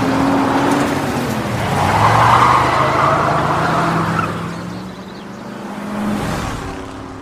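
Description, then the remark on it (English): A car's engine roars as its tires screech through a hard, swerving turn to make a highway exit on the way to Knoxville, the squeal rising and fading over several seconds, then the motor drones on, with no voices. “And then she screeches to make the exit”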